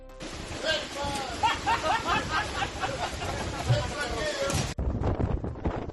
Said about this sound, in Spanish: Los vientos han rozado los 100 km por hora esta mañana en la ciudad y dejan sonidos como estos.